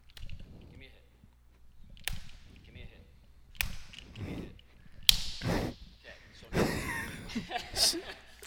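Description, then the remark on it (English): Four sharp open-hand slaps land one after another at a steady pace, each a loud, crisp smack, with voices reacting and laughing between the hits. “just went with, I think, four consecutive pretty good pitch good slaps.”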